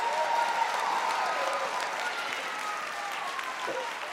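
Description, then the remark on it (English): An audience bursts into steady, sustained clapping in praise of Jesus, a dense wash of many hands that stays loud throughout and eases only slightly toward the end, with faint voices mixed underneath. “Come on, give Jesus a head clap of praise.”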